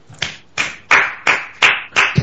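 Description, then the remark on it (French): A brief burst of applause: about six sharp, evenly spaced claps in a steady rhythm, fairly loud, with no talking over them. “Tolère d'applaudissement pour une carrière bien gérée.”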